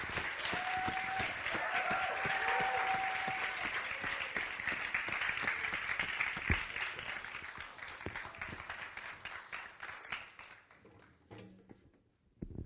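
A crowd applauds steadily for about ten seconds to welcome a guest pastor, dense overlapping claps with a faint tone and murmur underneath, then the clapping thins out and fades to near silence.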